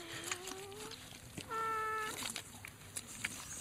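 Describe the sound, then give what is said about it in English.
Air squeezing out of a hole in the stomach of a shot deer being cut open with a knife, making two drawn-out, reedy squeals that sound almost like a small animal crying, fairly quiet, with no talking. “It's just because there's a hole somewhere in the stomach and air is coming out.”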